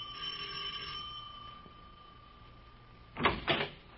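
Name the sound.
doorbell ringing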